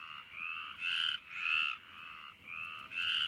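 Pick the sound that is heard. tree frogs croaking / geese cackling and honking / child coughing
tree frogs croaking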